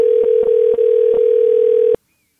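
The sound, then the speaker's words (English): A steady, loud telephone dial tone hums for about two seconds, with a few soft clicks of dialing over it as a call is placed to a friend, then cuts off abruptly into silence. “So now it's time for a segment of the podcast called Phone a Friend, where we do just that. Phone a friend.”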